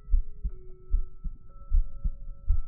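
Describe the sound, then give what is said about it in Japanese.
A steady heartbeat thumps in low, muffled double beats, roughly one pair every half second, continuing throughout with a faint, steady hum in the background and no voices. “ドキドキしとった。”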